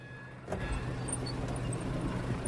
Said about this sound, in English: He winds the window down.